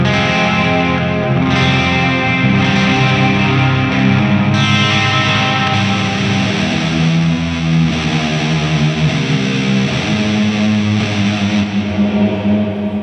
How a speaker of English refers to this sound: To make it more cavernous. Yeah. I love that even though you're using modulation and maybe even reverb, it's still dark and haunting, like the way it's set up and how it hits the amp and it interacts with everything.